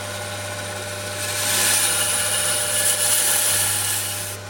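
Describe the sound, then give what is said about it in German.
A motorized power saw hums steadily, then bites into an Arctic ice core about a second in, adding a loud, gritty high-pitched whine that holds for several seconds before easing off. No one speaks. “Ich mache hier die Säge an.”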